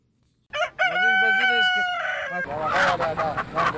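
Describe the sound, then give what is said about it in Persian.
A rooster crows loudly with a long, wavering call, then a busy flurry of chickens clucking and squawking takes over toward the end, at poultry raised in Kunar, a mountainous province in eastern Afghanistan. “مسئولان آن اداره گفتند با وجودی که در عرصه پرورش مرغ به سوی خودکفایی روانند، ولی هنوز هم چوچه مرغ را از پاکستان وارد می‌کنند.”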